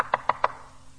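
Three quick, evenly spaced knocks on a door, fairly sharp, followed by quiet.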